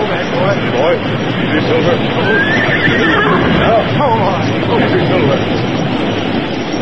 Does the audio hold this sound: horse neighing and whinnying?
yes